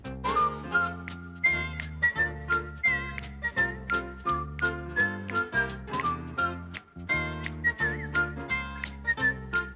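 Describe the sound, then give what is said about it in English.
A person whistles a bright, bouncy melody over an upbeat instrumental backing with steady rhythmic chords and percussion, the whistle clear and prominent throughout. “Whistling like a fool.”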